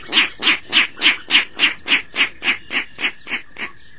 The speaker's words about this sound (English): This rail is bright orangey-brown overall, with gray cheeks and a long red bill. We're lucky to have seen a Virginia rail. It may be a long time before we see another, but we'll not soon forget that distinctive voice.